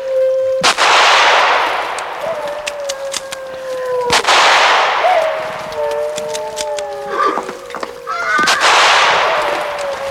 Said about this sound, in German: Die Wölfe greifen an! Ich habe nur noch 14 Schuss. Schießen Sie! Es muss sein!